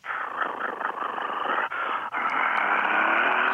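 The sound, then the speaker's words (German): A voice imitates a truck engine starting: a low, rumbling, growly drone that sputters and briefly cuts out twice before settling into a steady, loud running rumble. “Kannst du auch einen Lastwagen anmachen?”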